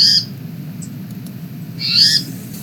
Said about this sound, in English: On Saturday, Valerie first heard the unfamiliar cat-like call, or rather catbird-like call, distinct from those of our eastern towhees.